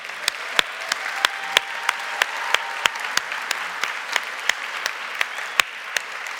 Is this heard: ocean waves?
no